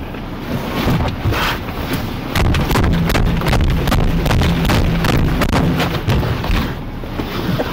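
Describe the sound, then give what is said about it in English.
Something bangs repeatedly against a car window: loud, irregular knocks and thumps come in quick succession over a constant heavy rumble, with no talking. “You just banging something against the window.”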